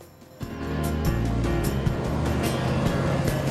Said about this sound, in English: A van and a car pass down the quiet town street.